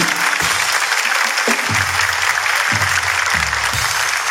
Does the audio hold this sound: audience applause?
yes